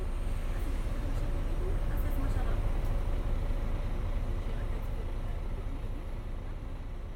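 Faint, steady rumble of slight traffic passing outside a window, a continuous low drone with no breaks, under indistinct background murmuring.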